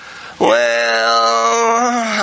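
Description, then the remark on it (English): A voice imitates a whine, holding one drawn-out nasal tone for about two seconds at a fairly steady pitch that wavers slightly before cutting off. There are no words. “I kind of worry about it when something happens in a life and all you hear is whining.”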